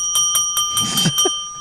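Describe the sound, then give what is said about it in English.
A small bell in a studio is struck several times in quick succession, with bright, sustained metallic tones layered over one another for a moment. “that's just actually a bell that's literally sitting next to Ryan”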